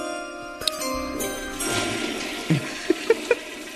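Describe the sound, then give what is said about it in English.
A toilet flushes with a rushing, gurgling wash of water, followed by a few small clicks and knocks as the tank settles. No one speaks. “Do you always wait for the flush to finish?”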